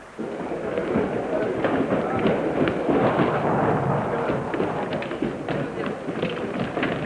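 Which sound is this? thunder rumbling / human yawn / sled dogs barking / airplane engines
thunder rumbling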